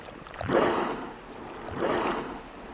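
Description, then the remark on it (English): Two forceful, breathy whooshes of killer whales exhaling at the surface, spaced about a second apart, close by against a low background of wind and lapping water. A group of four killer whales in open water among floating icebergs. “Four killer whales, so close we can hear them breathe.”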